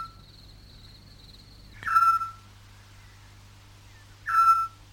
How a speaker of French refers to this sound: Donc là c'est vraiment un exemple de ce que peuvent faire ces artistes. Le petit duc.